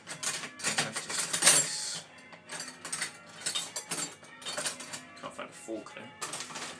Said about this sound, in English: Yep, egg needs to go in with the chocolate, which is here. In you go, egg, and then we need to give that a bit of a whisking. I don't have it, I could do with a balloon whisk, but I don't have one, so a fork.